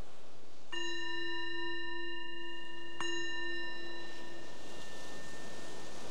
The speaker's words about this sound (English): So the bell is the invitation to bring your awareness back more to the surface and noticing whatever you may have noticed that was useful or informative.